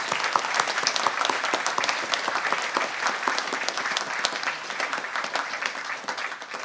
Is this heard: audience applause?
yes